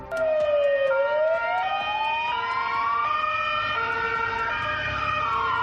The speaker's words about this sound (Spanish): la capital gaditana han sonado las sirenas policiales debido al fuerte dispositivo ordenado por la subdelegación del gobierno.